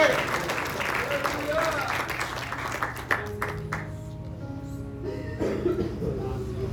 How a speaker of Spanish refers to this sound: Den un aplauso a Dios, hermano. Den un aplauso a Dios, hermano.